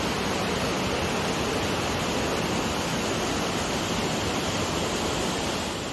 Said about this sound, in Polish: spadające z wodospadu duże masy wody zagłuszały nawoływania zaginionego. I kiedy byłem przy tych wodospadach, to nagrałem taki krótki urywek, w którym słychać, jak tam jest głośno i faktycznie po prostu no niewiele słychać, jak się mówi do siebie.